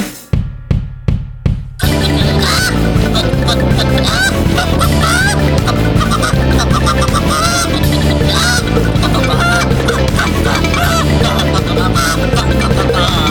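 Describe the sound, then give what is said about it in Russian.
Several voices imitate chickens clucking and squawking, loud and continuous over a dense, driving musical backing, after a few sharp rhythmic hits at the start. “Покудахчем!”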